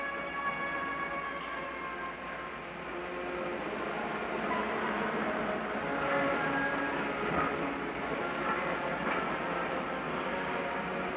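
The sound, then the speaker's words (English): A train rolls slowly out of Paddington Station in winter sunshine with a steady rumble, overlaid by sustained high whining and squealing tones from the wheels, continuous for the whole stretch with no voices, as soldiers stand facing it at the salute. “Every man here standing facing this train at the salute as slowly it passes from Paddington Station.”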